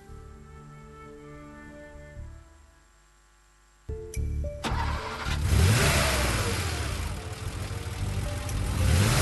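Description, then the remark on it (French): A car engine hums, dips briefly quiet, then starts up and revs hard, its pitch sweeping upward as the car carrying a bank's director general and his deputy accelerates away toward the great cemetery of Brimborion, loud, with no voices. “Et voici, Monsieur Stanislas Esmigan, directeur général de la Banque Bangossienne de Développement, et son adjoint direct, Lucas Potchoin, qui partent en voiture, en direction du grand cimetière de Brimborion.”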